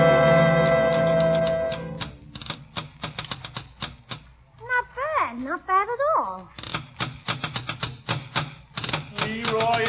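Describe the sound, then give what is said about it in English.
Hands drum on a tabletop in a quick, uneven run of sharp knocks that carries on for several seconds, briefly joined by a voice in the middle. “I was drumming. What were you banging on? On the table here.”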